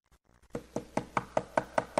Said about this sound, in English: Knocked on the door frantically.